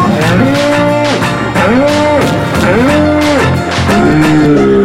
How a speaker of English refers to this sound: Wait, let me speak your language. Cows go moo.